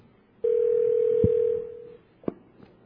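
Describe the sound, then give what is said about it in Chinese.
A telephone rings once with a steady, fairly loud electronic tone lasting about a second and a half, fading out, followed by a short click like a receiver being picked up; a mother is calling her son at his university dormitory. “在这个时阵，妈妈打电话给小明。”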